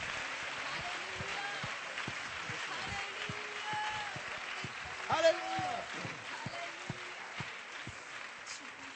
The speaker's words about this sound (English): Let's clap our hands to the Lord in anticipation right now. Applaudissons le Seigneur avec anticipation.